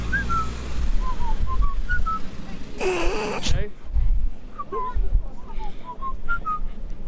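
Someone whistles a halting, off-key tune in short wavering notes, pausing midway during a brief burst of rustling noise before resuming the shaky melody over a low background hum.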